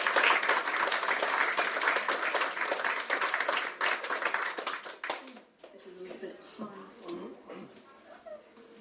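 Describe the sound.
A crowd applauds an author introduced to read a story, with dense, steady clapping for about five seconds. The applause then drops away abruptly and a single person starts speaking.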